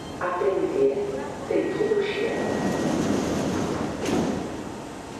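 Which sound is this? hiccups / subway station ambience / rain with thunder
subway station ambience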